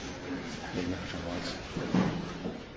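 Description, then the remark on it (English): A chair creaks and bumps against the floor in a brief knock near the end, amid a low, steady room murmur with faint indistinct voices. “Let's see, there's something. Okay, the chair probably.”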